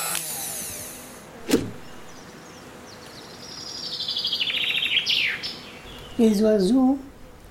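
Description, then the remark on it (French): Birds that have come to a feeder to eat chirp and squabble, pecking at each other, with a sharp snap early on, a run of rapid high tweets in the middle, then a loud, harsh scolding call near the end. “Les oiseaux qui viennent manger, ils se disputent quelquefois.”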